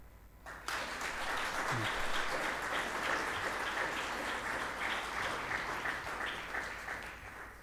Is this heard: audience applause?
yes